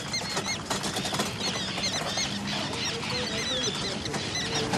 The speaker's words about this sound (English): Yeah, you can hear them there. That's common terns. There they are, just going over.